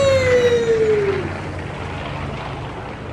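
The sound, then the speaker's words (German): A sputtering airplane engine gives a loud, falling whine over about a second, then fades into a rough, steady rumble of noise. “Das riecht und pfupft ja wie verrückt aus dem Motor.”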